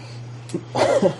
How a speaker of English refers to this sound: God bless you.